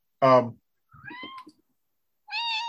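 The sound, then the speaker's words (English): A cat meows three times with short pauses between: a loud, strong first cry, a quieter wavering middle one, and a final drawn-out meow. “Hi, cat.”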